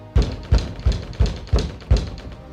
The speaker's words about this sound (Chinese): 忽然一阵急切的敲门声